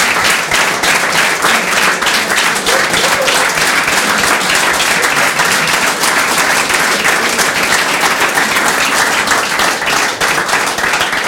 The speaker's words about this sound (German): Also vielen Dank für diesen warmen Applaus, für den warmen Empfang hier im Schillergarten.